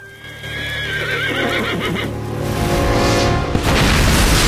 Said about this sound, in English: A huge explosion rips through the earth, sending a ball of orange flame into the air.